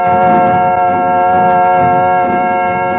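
In the radio serial Chandu the Magician, a clattering little train in the Balkan mountains approaches the capital, Lubowa. It sounds a loud, steady, chord-like whistle held for the whole three seconds over a low, rumbling clatter of wheels, with no voices.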